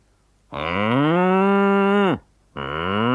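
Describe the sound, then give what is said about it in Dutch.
Human voices imitate a cow's moo: one long, loud, drawn-out moo that drops in pitch at the end, then a brief pause before a second moo begins and is cut off. “Dit keer doen we echt koeien na.”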